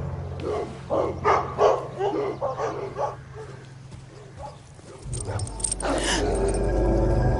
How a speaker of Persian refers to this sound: چه سگای خوبی، راستش اینا رو تا حالا ندیده بودم. بچن از یه نژاد جدیدتر.